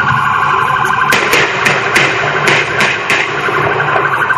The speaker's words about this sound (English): About seven gunshots. The woman in the coupe keeps driving. You see her car. That's the car zooming away after the police officers fired upon her.